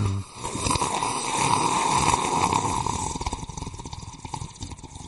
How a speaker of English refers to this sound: Let me take a sip of my morning coffee.